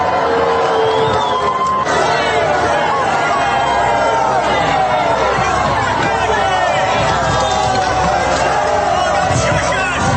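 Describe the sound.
A large crowd of protesters boos and shouts loudly and continuously at Elise Stefanik as she attempts to address them, a dense wall of overlapping voices with jeers rising and falling throughout, unbroken from start to finish.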